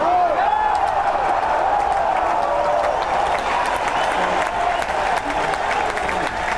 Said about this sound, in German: Aufgewärmt haben sie sich unter anderem an einem Feuer, bei einem Fondue, mit einem Kaffee Lutz oder beim Jubeln und Klatschen nach guten Aktionen im Sackmehl.